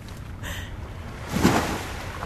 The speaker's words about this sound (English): I did tear up, though. I can't tell you exactly why. Something about the relentlessness of those crashing waves, my fear of getting in,